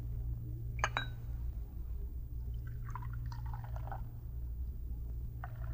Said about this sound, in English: Just turn that brass spigot on the urn.